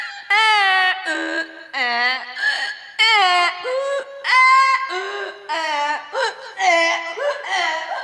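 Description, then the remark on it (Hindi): A voice brays like a donkey that has got into a farm field of cucumbers, in loud, drawn-out bursts that rise and fall in pitch, repeating steadily for several seconds with short breaks between each wailing cry. “अरे लगता है कोई गधा खेत में घुस गया है। हाँ भाई, आवाज तो उधर से ही आ रही है।”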